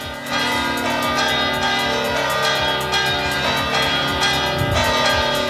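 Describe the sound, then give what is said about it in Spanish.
The bells of Badajoz Cathedral in Extremadura, Spain, peal loudly and continuously, several bells overlapping in a dense, ringing wash of clangs with long sustained tones; no voices are heard. “Este es el sonido de las campanas de la Catedral de Badajoz y así las escuchamos”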